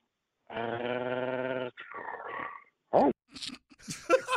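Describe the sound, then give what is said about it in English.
A person imitates a dog when asked to give their bark, starting with a long, sustained growling howl, then a few sharp barking yelps, loud with no other background. “How are people so good at barking?”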